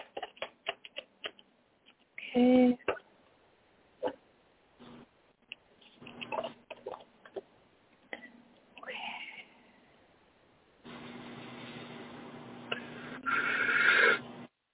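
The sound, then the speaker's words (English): A deck of cards is shuffled for a card reading, with crisp papery riffling and tapping in quick bursts, then a longer steady rustle near the end, with a brief spoken word in between. “1 second while I shuffle the cards.”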